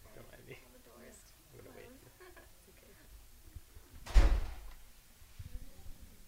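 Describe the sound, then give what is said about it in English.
A single loud door slam cuts in sharply partway through, its thud ringing out briefly, while quiet, indistinct voices murmur before and after it. “I'm going to edit the door, slam out.”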